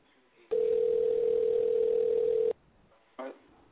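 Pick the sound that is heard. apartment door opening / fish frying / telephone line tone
telephone line tone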